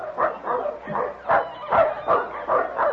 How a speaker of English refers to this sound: Say, listen. Do you hear that? A dog team.